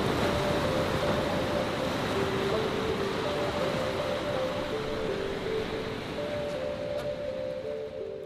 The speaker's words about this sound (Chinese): 哇，听到海浪声啊